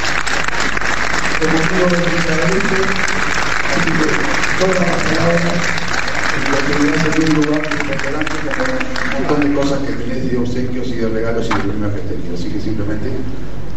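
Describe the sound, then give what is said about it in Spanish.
An audience claps steadily and loudly for about fourteen seconds as someone is presented with the municipality's coat of arms, a dense, continuous wash of applause, with voices talking and calling out over it throughout. “Un aplauso grande.”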